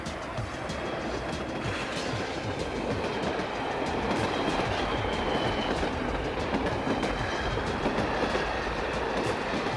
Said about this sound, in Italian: Il treno riparte, lui non si ferma.